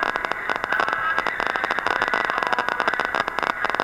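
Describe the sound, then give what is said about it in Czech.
Harsh, steady radio hiss and crackle from narrowband FM demodulation on a second receiver, switched over from AM, thick with rapid fluttering phase noise and a faint whining tone running through it, with no voices. “Jedná se momentálně o FM demodulaci. Je tam slyšet hluk fázového šumu a odstřelování kmitočtu.”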